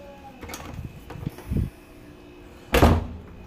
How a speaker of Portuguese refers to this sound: Claro! Vamos abrir a porta, né?